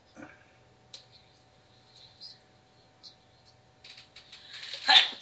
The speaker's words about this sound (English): Bless you. Thank you. Excuse me.